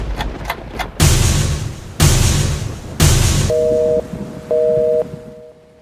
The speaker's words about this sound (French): Maintenant que le décor est planté, il est temps de frapper les trois coups et de lever le rideau.